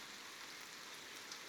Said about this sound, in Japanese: まだ小雨降ってますし、もう少しここで雨宿りしましょう。